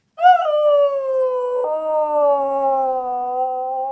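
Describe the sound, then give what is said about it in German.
A small white nine-year-old Jack Russell terrier lets out one long, sustained howl, starting high and wavering as it slowly slides lower in pitch, with no other sounds around it. “Fragen wir doch den Hund von Alex Moser, unserem Aargauer Korrespondent.”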